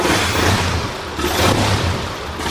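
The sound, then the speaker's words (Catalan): An old Hispano-Suiza car engine revs in two rising bursts, a low rumbling drone swelling and easing back, fairly loud with a rough, clattering texture and no talking. “Segur que algun dels nostres oients recorden els automòbils Hispano-Suïssa.”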